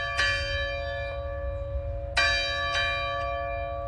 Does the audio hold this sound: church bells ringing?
yes